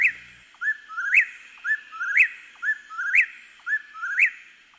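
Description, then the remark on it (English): A songbird sings alone, repeating a clear, whistled phrase about once a second, each ending in a rising, upslurred note, steady against a quiet background. “I love that bird. It's a less celebratory sound than the wood thrush.”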